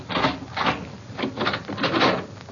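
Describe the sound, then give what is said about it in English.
A key rattles and scrapes in a door lock, producing a series of short metallic clicks and grinding bursts in an uneven rhythm, with no voices. “Here, let me unlock the door to the hill.”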